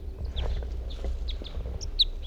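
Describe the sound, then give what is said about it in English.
A male bird sings right next to a net, a string of short, high chirping notes at an uneven pace, ending in one brighter, louder note, over a steady low background rumble. “That was a male who was singing right next to the net side here somewhere.”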